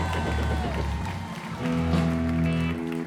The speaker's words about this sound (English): Let's practice real quick and see how loud you're going to be, all right? Let's hear some applause and cheering. Yeah! Woo!